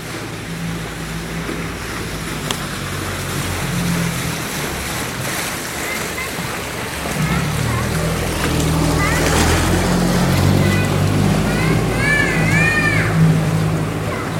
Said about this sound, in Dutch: Weet je wat ik heb net binnengekregen? De opname van de golfstroom.